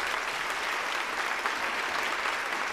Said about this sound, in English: Oh, wow. I think the applause is a little unnecessary here.